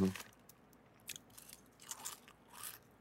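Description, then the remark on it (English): Crisp crunching of a mouthful of chips being chewed, with the chip bag heard, several irregular bursts of soft, crackly chomping spread over a few seconds, with a brief low voice sound at the very start. “I have a mouthful of chips right now.”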